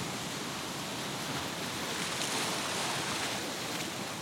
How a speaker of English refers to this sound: Each wave that comes in fills the tide pool with fresh water. The ocean's water infuses you with its energy, the energy of the young earth.